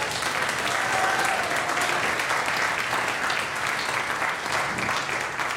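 A church audience applauds a church volunteer, a dense steady wash of many hands clapping at an even, loud level for several seconds with no voices standing out.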